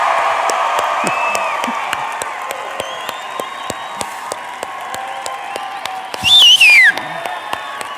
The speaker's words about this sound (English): So I'm going to ask you guys one more time. I want you to cheer like Jesus just scored a touchdown. Are you guys excited to be in church today?